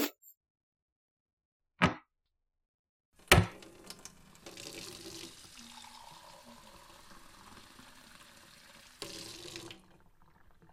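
A couple of sharp clicks, then a faucet opens and water streams steadily into a glass for about six seconds, the pitch rising slightly as it fills, before shutting off. No one speaks.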